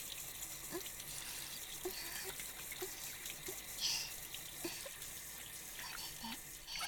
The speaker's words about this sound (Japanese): 泡を洗い流して、シャワーのお湯、先っぽに当てられる。